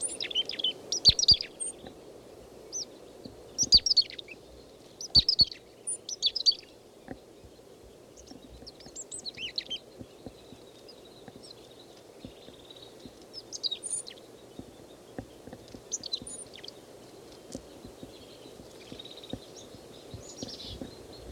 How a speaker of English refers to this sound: No, chickadee just left. They have been giving 3 calls. Again, 10:20, same birds, same flock. This chickadee is foraging. I don't see any others nearby. He's giving 3 calls.